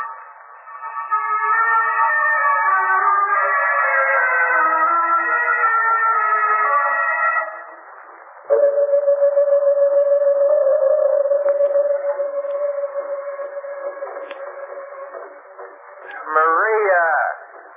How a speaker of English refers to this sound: Playing that cool music over and over.